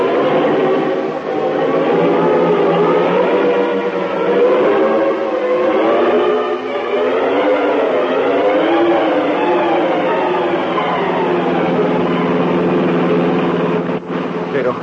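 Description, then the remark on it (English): A car engine runs steadily, its pitch rising and falling as it revs and drives along, a continuous loud motor drone lasting the whole stretch. “And we'll follow in my car.”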